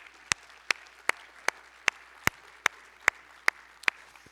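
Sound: audience applauding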